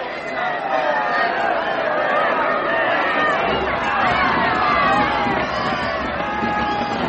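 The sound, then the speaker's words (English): A large English crowd gathered for Raleigh's execution shouts and clamors, many overlapping voices rising and falling in a loud, unbroken roar of jeers and cheers that holds steady throughout. “A good crowd, eh, priest? And happy to see me.”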